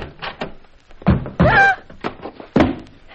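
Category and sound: household object, closet door being opened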